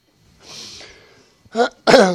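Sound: sneeze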